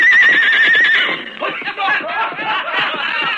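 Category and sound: animal, horse whinnying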